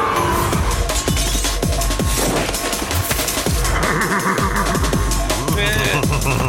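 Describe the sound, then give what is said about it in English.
A horse whinnies in a video game amid a busy, loud game soundscape, with rapid percussive bursts like gunfire and clattering hits throughout. “Anyway, that horse is great. Yeah, I love good. That horse sound.”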